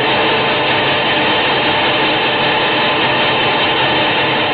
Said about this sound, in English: Be sure to listen next week at this same time when the roar of the presses tells us it's time for another Night Editor story written and told by Hal Burdick.